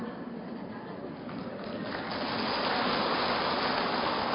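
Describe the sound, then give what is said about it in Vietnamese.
Dense, crackling applause from many hands, a steady wash of clapping that swells louder about halfway through and stays at that fuller level to the end. “Vỗ tay thì to thế. À, vỗ tay bé thế chứ.”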